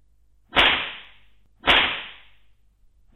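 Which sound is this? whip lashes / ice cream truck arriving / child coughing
whip lashes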